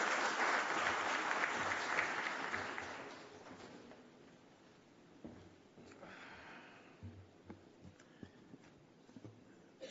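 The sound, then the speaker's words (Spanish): Dense applause from an audience in the city of Santiago, welcoming the executive director up to speak, loud at first and then fading over a few seconds, followed by scattered light claps, shuffling and small noises. “Recibamos ahora con un fuerte aplauso a nuestro director ejecutivo, el licenciado Wellington Arnot Bisonó, quien nos compartirá unas palabras.”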